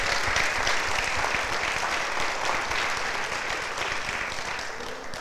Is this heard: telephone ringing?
no